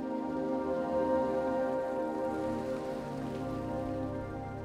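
Heavy rain pours down steadily, a dense, continuous patter with a low rumbling undertone and no letup over the few seconds.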